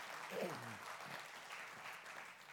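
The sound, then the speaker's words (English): An audience in church claps steadily to thank God for His presence, a dense wash of many hands clapping at once, with a brief voice rising through the applause early on. “One more time, would you clap your hands and thank Him today for His presence?”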